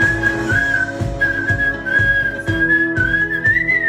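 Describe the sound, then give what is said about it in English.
Someone whistles a tune, as shared in a WhatsApp whistling group: a clear, steady high melody with small pitch glides, loud over a rhythmic backing that pulses roughly twice a second. “Whistling WhatsApp groups, or grupos de assobio in Portuguese, are proving surprisingly popular in Brazil.”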